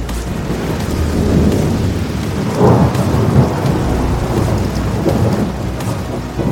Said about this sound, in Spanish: pero hay un desastre épico que podría ser mucho peor que ambos. Y podría ocurrir en cualquier momento. Las mortales tormentas torrenciales.